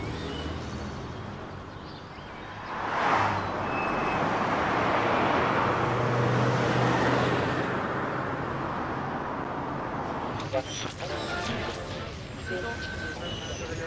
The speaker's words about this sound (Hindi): तुम छोड़ो इसे, अपनी गाड़ी चलाओ, ट्रैफिक हर जगह है, क्या देख रहे हो तुम, चलो।